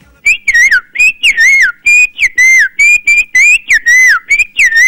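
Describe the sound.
A person whistles an imitation of a great kiskadee's call: loud, bright phrases that rise and then dip, repeated about six times in quick succession with short gaps, and no talking.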